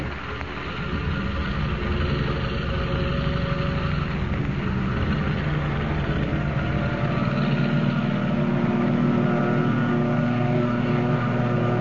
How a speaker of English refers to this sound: Rising from the water like some monstrous seabird, the plane roars into the darkness, headed for the open ocean.